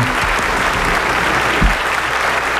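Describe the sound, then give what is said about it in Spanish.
Steady, dense applause from a group of people for graduates, loud, with rapid overlapping claps filling the whole moment without a break. “Unos aplausos, por favor, a los graduados.”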